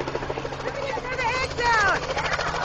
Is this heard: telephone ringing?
no